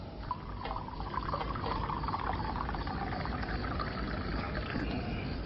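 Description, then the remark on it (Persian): Coffee pours steadily into a cup, a continuous gurgling stream of liquid that runs for several seconds without a break and with no voices over it. “نه احتیاج به قهوه داره. یه فنجون قهوه درست حسابی.”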